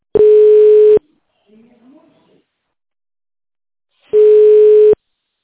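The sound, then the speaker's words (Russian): Telephone ringback tone while waiting for an operator at the company Grad Proekt to answer: two loud, steady mid-pitched buzzing tones, each about a second long, separated by roughly three seconds of quiet, with a faint murmur of voice in the gap. “Дождитесь ответа оператора.”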